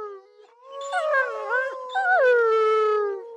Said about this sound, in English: We finish the tour with a group howl. Isis eventually joins in.